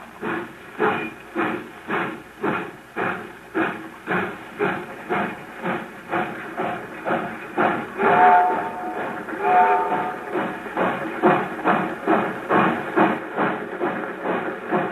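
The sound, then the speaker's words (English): A steam train pulling out chugs steadily, its loud, rhythmic chuffs repeating about twice a second beneath a constant hiss, with a brief swell of metallic squealing partway through. “I get really sick when I think about the train pulling out.”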